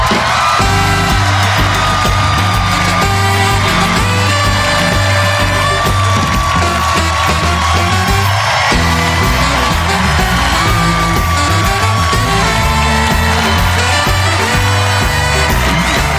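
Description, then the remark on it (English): A studio audience at the Ed Sullivan Theater cheers and whoops wildly as David Letterman makes his entrance, a dense, sustained roar that stays loud and unbroken for about sixteen seconds, with shouts and yells rising out of the crowd noise. “talked about all kinds of things, but man, when he made an entrance, the crowd went wild.”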